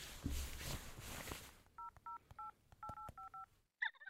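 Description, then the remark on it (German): A quick run of about seven or eight crisp, two-toned telephone keypad beeps as someone dials a phone call, pressed in an uneven rhythm after a burst of rustling, ending with a brief electronic chirp. “Entschuldigung, ich muss mal kurz telefonieren.”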